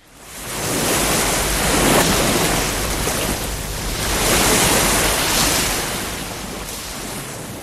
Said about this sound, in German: Zum Beispiel, wenn eine Welle am Meer bricht, weil Brasilien so viele Strände hat.